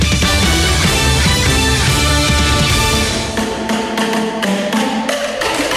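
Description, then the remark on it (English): A busy musical passage gives way to steady, forceful drum strikes from the Harvard Undergraduate Drumming Corps, a university student drumming group, the hits coming in a regular rhythm and ringing loud. “It's the Harvard Undergraduate Drumming Corps, or THUD.”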